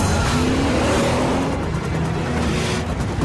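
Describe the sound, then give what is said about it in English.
A Volvo car engine revs hard and accelerates as the driver floors it, its pitch climbing steadily under a constant roar of road noise, loud, with no voices. “Down goes the driver's foot. The Volvo tries to match the speed.”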